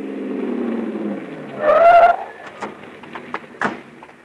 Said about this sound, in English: Look, he's moving over into the right lane. Probably going to turn. Well, we're going with him. Hang on, honey. We can't lose him. We can't. We won't. He's pulling into that parking lot.